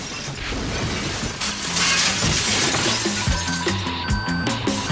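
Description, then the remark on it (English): A loud crash as a person is sent crashing into a jukebox, with glass shattering and clinking debris, followed by scattered tonal music notes continuing under the noise. No one speaks. “Moments later, the barfly sent crashing into the jukebox.”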